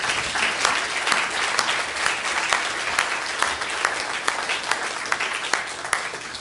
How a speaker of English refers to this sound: Let's give these young people a hand clap.